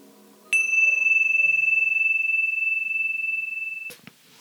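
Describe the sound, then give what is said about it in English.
A single meditation bell is struck once to begin a meditation and rings with a clear, steady tone that sustains and slowly fades over about three seconds, heard alone. “So we'll begin with a bell.”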